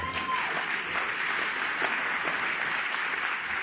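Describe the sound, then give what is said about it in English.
Steady, dense audience applause fills the whole stretch, a continuous wash of many hands clapping at an even level with no voices standing out. “Some of you clap, some of you just go, huh?”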